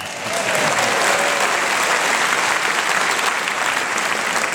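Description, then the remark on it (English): A room full of people applauding steadily, a dense, even patter of many hands clapping at once, loud and sustained throughout with no voices standing out. “I don't know why you clap.”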